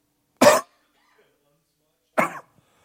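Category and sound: human body sound, coughing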